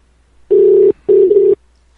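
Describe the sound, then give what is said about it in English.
A telephone ringing tone sounds in two loud, steady buzzing bursts with a short gap between them, heard clearly on the line with no voices around it. “Doesn't sound like they have a real phone either.”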